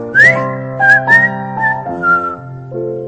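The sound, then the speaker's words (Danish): Bright, short whistled phrases like a starling's call, with quick upward glides, ring out over steady, sustained chords of music. No one speaks. “lystigt fløjte stæren”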